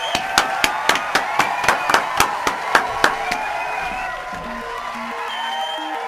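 Applause in a studio: about a dozen sharp, evenly spaced claps in a steady rhythm over a soft background, stopping after a few seconds as faint tonal sounds continue.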